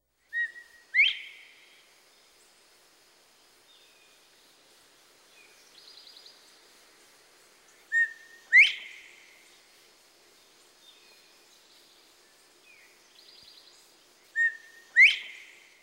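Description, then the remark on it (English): A common eastern songbird in a hedgerow or thicket repeats a short phrase three times, a clear whistled note followed by a sharp, buzzy burst, with softer trills between phrases. It sings alone and distinct. “Hedgerows and thickets provide excellent habitat for many common eastern birds. Here are 9 species that regularly take advantage of this dense cover.”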